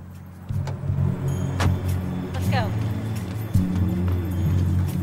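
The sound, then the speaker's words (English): A car carrying Angie and two other officers pulls up behind Jake's car outside a building; its engine rumbles steadily, a low idling hum with a few faint clicks and knocks as the vehicle rolls in and settles. “As he reaches a landing, a car containing Angie and two other officers pulls up behind Jake's.”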